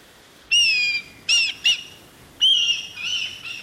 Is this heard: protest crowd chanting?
no